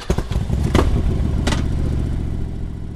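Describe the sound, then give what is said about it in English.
A police escort motorcycle engine revs loud, its throaty rumble climbing and settling, with a couple of sharp bursts of throttle early on and no voices, stopping traffic on the roads from the stadium to downtown Tallahassee, Florida. “So, with those statistics in mind and a police motorcycle escort to stop traffic on the roads from the stadium to downtown Tallahassee, a group of about a dozen cyclists set off.”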